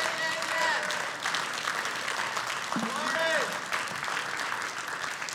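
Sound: audience clapping hands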